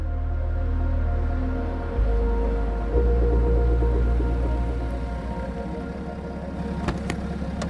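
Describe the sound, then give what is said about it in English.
A blue car with glaring headlights pulls back up to the curb on a wet, deserted residential street, its low engine drone shifting as it slows and comes to a stop, then settling into a steady idle with a couple of faint clicks near the end. “The car's headlights glare as it pulls back up to the curb.”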